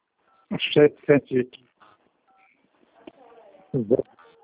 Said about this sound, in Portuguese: É que o senhor tá encostando no teclado. É como se o senhor estivesse digitando. Eu só preciso que o senhor fale.